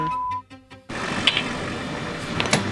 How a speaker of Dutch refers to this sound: Oh, de deur gaat open.